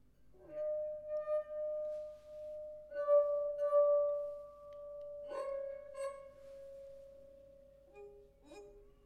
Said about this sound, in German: Gehört? Das Glas, das fast leer ist, das macht den höchsten Ton. Das ist das halbvolle Glas. Das noch ein bisschen voller und dann das ganz volle Glas.